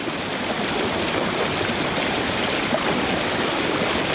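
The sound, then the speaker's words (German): A waterfall at Zillhausen roars steadily, a dense, continuous wash of falling water with no pauses or voices. “Wir waren in Zillhausen am Wasserfall und sollten dort unten am See baden.”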